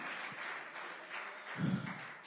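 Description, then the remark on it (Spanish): A church audience claps continuously in a dense, even patter of many hands, fairly soft overall, with a brief low rumble swelling partway through and no clear speech over it. “Oh, aplaude. Si quiere, apláudale más fuerte.”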